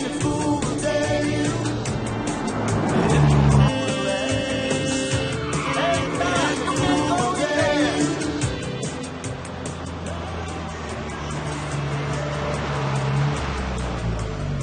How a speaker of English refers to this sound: Later, they drive on a deserted road outside town.